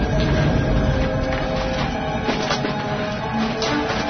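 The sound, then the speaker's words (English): A steady, loud mechanical rumble with clattering rattles of a train approaching along tracks, holding constant throughout with no voices. “It sounds like a train.”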